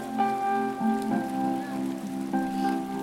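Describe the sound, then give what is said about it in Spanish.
Steady, rain-like patter of water splashing at the natural pools of Jicaltepec fills the whole recording, with sustained musical tones layered over it and changing every second or so. No one speaks. “Las pozas de Jicaltepec.”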